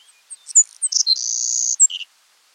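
A Savannah sparrow sings once: a few thin, high chips, then a long insect-like buzzy trill and a short low-pitched ending note, clear with no background.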